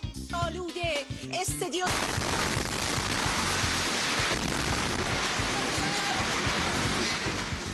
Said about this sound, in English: Explosions rocked the live broadcast of Iranian state TV yesterday after Israel bombed station headquarters.